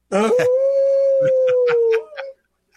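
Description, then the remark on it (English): A person imitates a wolf howl on the Native Roots Radio show, in a segment supported by Howling for Wolves: one long, steady, loud howl held for nearly two seconds, then a short wavering tail, with a few brief sharp sounds over it. “you didn't howl with us”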